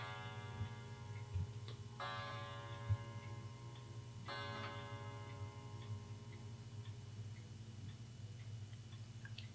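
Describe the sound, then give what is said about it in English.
A clock chimes twice in the background, picked up by a new microphone, each bright, bell-like strike ringing out and slowly fading, over a steady low hum and faint, regular ticking. No one speaks. “The clock is chiming in the background.”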